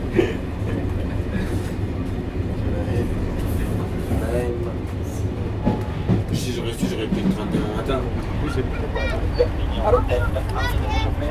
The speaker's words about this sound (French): Nous souhaitons la bienvenue dans notre train intercité de nuit à destination de Portbou.